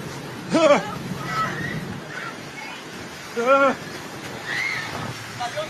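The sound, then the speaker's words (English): People shout and scream as they run for their lives from rushing water, in several short, high-pitched bursts over a steady roar of rushing water and wind, with a couple of louder cries standing out from the crowd noise. “You can hear the people screaming, people running for their lives.”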